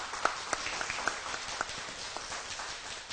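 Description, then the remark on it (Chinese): A crowd applauds the co-worker brothers with steady, dense clapping, a broad wash of hand claps punctuated by a few sharper individual claps, sustained at moderate volume throughout without any voices. “我们给所有同工弟兄们一个掌声，谢谢大家。”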